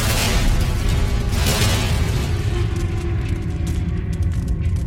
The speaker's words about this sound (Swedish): Men plötsligt låter ett ännu högre ljud bakom honom och han vänder sig om. Ljudet är först gällt och gnisslande, men det övergår snabbt i ett öronbedövande brak.